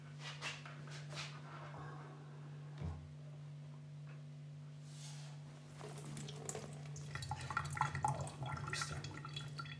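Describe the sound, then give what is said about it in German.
Wet wiping and light splashing as water is wiped out of a container with a sponge, scattered rubs at first, then busier and louder toward the end, over a steady low electrical hum. “Schön auswischen. Also Wasser weg.”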